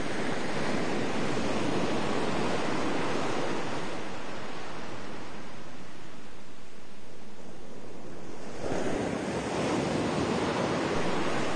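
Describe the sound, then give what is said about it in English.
Ocean waves crash and wash onto the shore in a steady, loud roar of surf, swelling and receding with a brief lull before another wave surges in; no voices. “Feel the beauty and the majesty of the ocean rising from all around you.”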